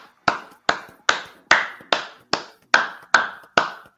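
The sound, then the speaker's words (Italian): A short round of applause: about ten crisp, evenly spaced hand claps at a steady, unhurried beat, each sharp and bright with a quick decay, with no voices. “io direi di fare anche un piccolo applauso ai nostri spettatori che si sono collegati con noi, quindi facciamolo.”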